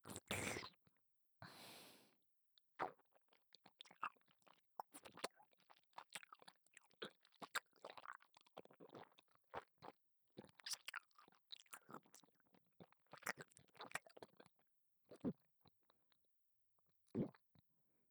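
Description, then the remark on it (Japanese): Chewing of food with wet, crunchy bites and irregular smacking bursts over about eighteen seconds, quiet overall but intimate, with no talking. “また、前回のように咀嚼するから、聞いてくれ。”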